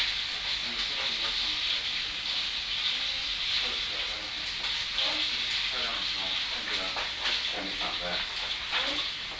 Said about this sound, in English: Kettle on. Yeah, just made the tea.